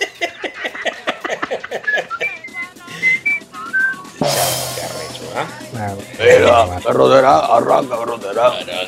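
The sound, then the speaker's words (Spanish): A small toy whistle gives a few short, high, wavering toots amid people chatting, followed by a louder burst of noise and lively voices. “Y yo estaba yo estaba pendiente, como estaba chamito, sí, yo estaba pendiente que me regalaran el silbatico ese.”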